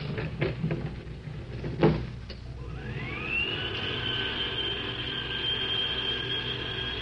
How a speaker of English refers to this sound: Get in the elevator. Okay. It's a tight squeeze, but I think we can make it. There we are. All right, Inspector. Close the door and take us up.